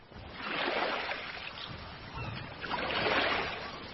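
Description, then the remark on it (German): Gentle sea waves lap and wash in two soft swells, broad hissing water rising and easing back, steady with no voices. “Der Wind legte sich und sanft plätscherten die Wellen des Meeres.”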